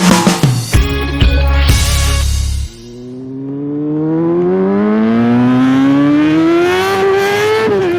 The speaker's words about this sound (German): Dieses Geräusch, das hört man jetzt immer öfters. Beim schönen Wetter ist Motorradfahren wieder angesagt